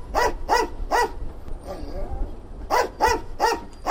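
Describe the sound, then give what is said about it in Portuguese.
A detection dog working over suitcases on a baggage belt at Jomo Kenyatta International Airport in Nairobi barks sharply: three quick barks, a brief pause with a faint whine, then four more yipping barks in a steady rhythm. “No leste de África, uma nova equipa de cães de rastreio juntou-se ao combate.”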